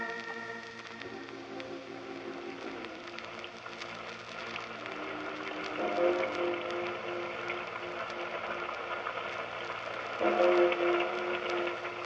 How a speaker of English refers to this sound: How long do we have to stand here in this confounded rain? I'm soaked to the skin.